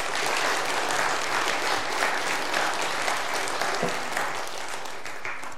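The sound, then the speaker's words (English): An audience at a worship service applauds the choir steadily for several seconds, a dense, even wash of many hands clapping at once, with no voices rising above it. “I think they deserve one more round of applause.”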